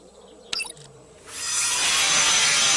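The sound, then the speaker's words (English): A chainsaw bites into a tree, rising after a brief mechanical clatter into a loud, steady, gritty roar that keeps going to the end, with no talking. “Now activate the chainsaw charge.”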